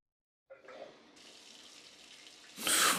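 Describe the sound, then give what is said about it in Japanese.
After a moment of silence, a shower starts up as someone showers right after coming home, with a steady hissing spray of running water that suddenly surges louder and fuller near the end, with no voices. “帰ってきて早々シャワーを浴びるなんて清潔でいいね。”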